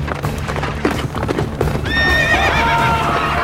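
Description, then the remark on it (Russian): Rapid, heavy hoofbeats of galloping horses pound steadily as Peresvet and Chelubey ride at each other in a duel with spears, then a loud, shrill horse whinny rises over the hooves and continues to the end, all over a low rumbling background. “Ой, уже разъезжаются.”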